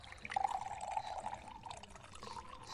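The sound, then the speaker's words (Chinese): Wine pours steadily into a cup for a couple of seconds, a bright gurgling stream with a rising pitch as it fills, no voices. “人要敬我一杯酒才是。”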